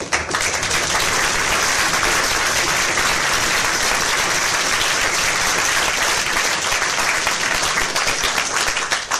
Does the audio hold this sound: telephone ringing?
no